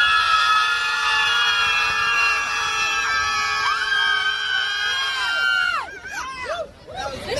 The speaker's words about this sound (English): Here are pro-death, pro-abortion screamers in New York yesterday who appear to believe again, like during the election, that screaming at the sky will change something here. Here, check this out.